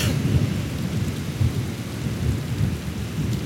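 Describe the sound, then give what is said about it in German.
Steady rain pours down at night outside a tent, with a continuous low rumble of thunder rolling underneath, loud throughout, with no voices present. “Über mir leuchten die Sterne, Regentropfen befeuchten die Welt.”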